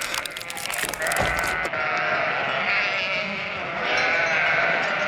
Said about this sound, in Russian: И вошло в избу целое стадо баранов, а за ними лихо.